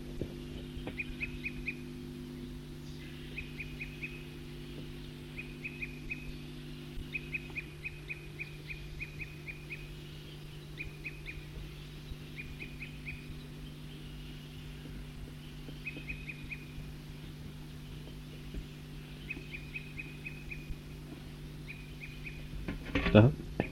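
A bird calls in short bursts of quick, high-pitched notes, repeating every few seconds over a steady low hum, with a brief louder rustle at the end.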